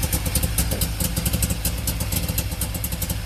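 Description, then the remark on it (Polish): The modern, eco-friendly 100-horsepower engine of a Syrena car runs steadily, a moderately loud rumble with a quick rhythmic pulse and some light clatter, heard alone without any talking. “Nie, silnik jest nowoczesny, ekologiczny, niestety nie jest stara syrenka. Trochę inaczej brzmi niż pyr.”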